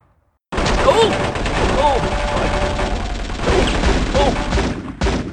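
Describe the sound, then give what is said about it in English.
A sustained volley of rapid submachine gun fire, the guns firing handgun loads, crackles for several seconds, dense and continuous, with shouting voices mixed into the clamor. “A whole volley of gunfire crackled from the black mass.”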